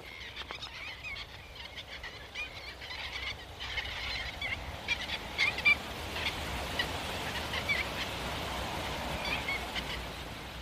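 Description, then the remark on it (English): A flock of red knots passes overhead, a soft, continuous whoosh of wingbeats under a dense chatter of high-pitched calls that builds slightly midway and holds steady, with no voices. “Their wings make a wonderful quiet whoosh as they pass over.”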